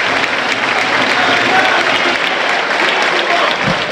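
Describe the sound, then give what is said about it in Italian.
A large stadium crowd at a Parma football match applauds steadily as Hernani, scorer of a 57th-minute penalty, is substituted for Camara in the 77th minute, a dense, even wash of clapping and crowd noise that holds at the same loud level throughout, with no one speaking over it. “Gli applausi per lui.”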